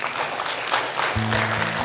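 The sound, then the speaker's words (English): A crowd gives God a hand clap of praise, clapping steadily in a dense, sustained wash of applause, with a low, steady organ-like tone entering partway through beneath the clapping. “If you're in here this morning under the sound of my voice and you still have your song, let me hear you give God a hand clap of praise.”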